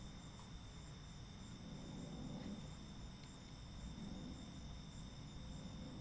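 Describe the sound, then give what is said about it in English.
A faint, steady chorus of crickets chirping continuously at night, recorded by a window, layered over a low, constant background rumble, with no one talking. “I'm recording this by a window, and I'm hoping you can hear the crickets and all the nighttime ambiance.”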